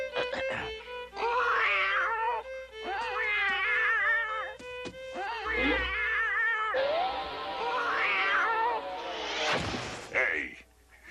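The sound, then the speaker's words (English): A person's voice imitates a cat, drawing out several wavering, nasal meows one after another, fairly loud, with a few soft knocks and a sharp squeal near the end. “A cat. I'm working on an impression.”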